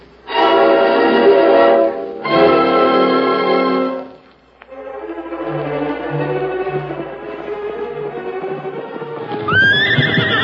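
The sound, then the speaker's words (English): Tonto's horse, coming back fast from town, gives two loud, drawn-out whinnies, then rapid galloping hoofbeats pound in a steady rhythm, ending with another high, rising neigh over the hooves. “That's Tonto coming back from town. He's traveling fast.”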